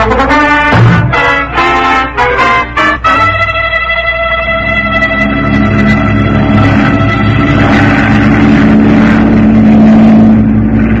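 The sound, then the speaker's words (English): A flying boat's engine sputters and revs in short bursts, then settles into a loud, steady droning hum that carries on without a break. “How does anybody fish from a flying boat?”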